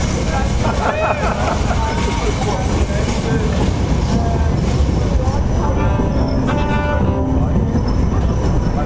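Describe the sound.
A tram rumbles loudly past at close range, a steady grinding roar with metallic wheel squeals rising near the end, while indistinct voices murmur underneath.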